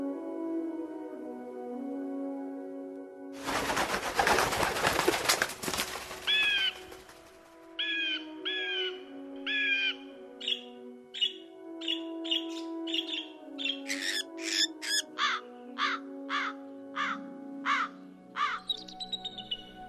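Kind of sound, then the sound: bird, birds calling outdoors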